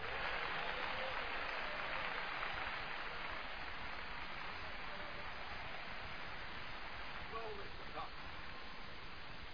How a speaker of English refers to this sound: Clap your hands and give Him some praise.